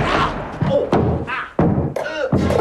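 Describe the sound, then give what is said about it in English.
A door shuts with a heavy thud as a man who has entered a room hurls himself at something, amid a string of loud, dull knocks and bumps, with voices grunting and calling out over the scuffle. “English enters a room and hurls himself at something. The door shuts.”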